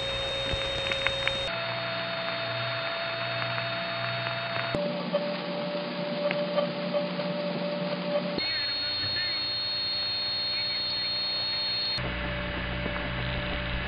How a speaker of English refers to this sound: The carrier systems in this family have a strong tendency to howl at a certain frequency range, usually between 5 and 700 hertz.